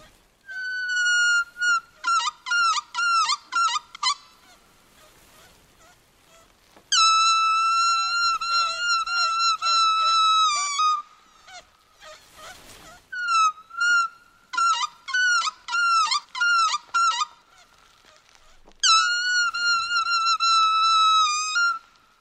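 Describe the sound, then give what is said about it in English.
Ocean-creature sounds imitated with plastic waste found in the ocean, from a Greenpeace radio commercial: loud, squeaky whistles in four bursts, alternating quick rhythmic chirps with longer sustained, reedy tones, separated by short pauses and a brief rustle, with no talking. “every one of those sounds was made using plastic waste found in the ocean.”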